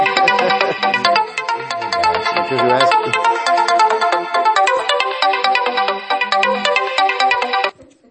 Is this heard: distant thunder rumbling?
no